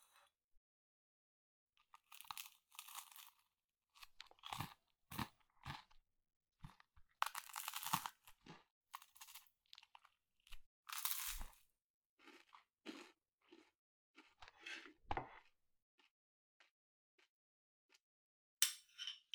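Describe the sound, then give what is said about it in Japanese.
Crunchy toast being bitten and chewed, a series of sharp, brittle crackling crunches in irregular bursts, fairly loud, with short pauses between bites and no talking. “サクサクじゃ。やっぱトーストはこうじゃないと。”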